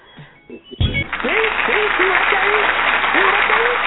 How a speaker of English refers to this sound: Can I get the applause for that, for Flintstone Vitamins, please?